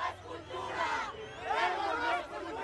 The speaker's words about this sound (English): This was one recent standoff here in Mexico City. On one side of the street are a gang of emo kids, decked out in black with purple and red striped shirts, shouting tolerance in unison.